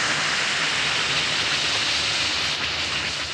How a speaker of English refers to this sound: Drop 1 or 2 Alka-Seltzer tablets into a glass of water like this. Listen to it fizz.